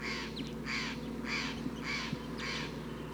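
Calls of a big wild flock of crossbills in the treetops: five evenly spaced, buzzy bursts of high chatter, each under half a second, rising over a steady low hum with no talking.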